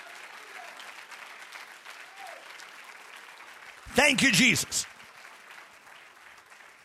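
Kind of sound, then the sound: crowd, audience clapping hands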